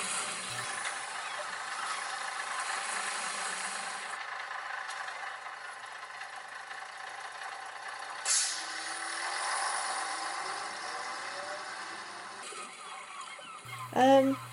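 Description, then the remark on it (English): A bus rumbles with a long, steady hiss of air brakes, a sharp pneumatic burst partway through, and a brief squealing, honk-like blast at the very end. “Let's all calm down and take a bus home.”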